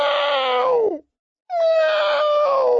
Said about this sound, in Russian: На нижней ветке сидел кот Пушок и жалобно мяукал